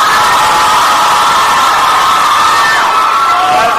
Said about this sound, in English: Girls win for the week, well done, give me a cheer.